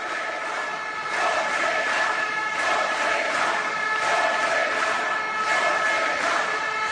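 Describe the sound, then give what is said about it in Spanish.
A large crowd of Veszprém handball fans in the arena chants the name Ortega over and over in a steady, rhythmic pattern, loud and continuous throughout with no individual voice standing out. “es que el sábado la afición del Vesperen, que al fin y al cabo yo creo que son los que entienden de balonmano y los que apoyan el equipo, en el pabellón gritando Ortega, Ortega, Ortega.”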